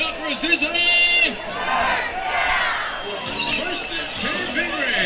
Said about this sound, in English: Homecoming. There's a good crowd here for homecoming, isn't there,